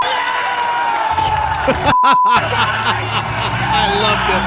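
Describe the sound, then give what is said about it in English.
A loud crowd celebrates with cheering and excited screaming, dense and continuous, with shouting voices rising and falling throughout, as aired on an NBC broadcast. “And more celebrations and more screaming.”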